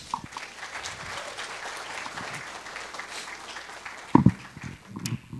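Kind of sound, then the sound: crowd, audience hand clapping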